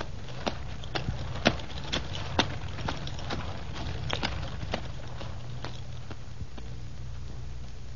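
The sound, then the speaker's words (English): Hooves of donkeys pulling a driven cart toward a castle clip-clop in an uneven, steady rhythm over a low rumbling drone of the rolling cart, the sharp knocks gradually thinning out toward the end. “Keep on going, driver, and open the throttle on those donkeys.”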